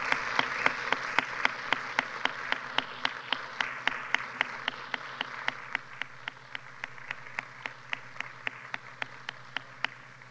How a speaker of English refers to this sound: Well, I'd like for all of us home folk just to give the visitors a big round of applause this morning, saying thank you for coming today.